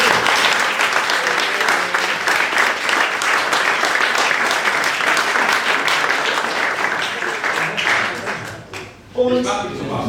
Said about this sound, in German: Ein riesen Applaus für die Sponsoren.